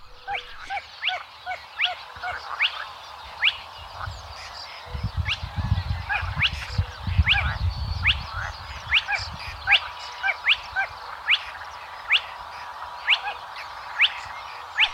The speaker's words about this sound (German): da kann man dann schon auch mal mehrere von solchen Tüpfelsumpfhühnern hören. Vielleicht sogar im Konzert mit dem kleinen Sumpfhuhn, dann klingt das so.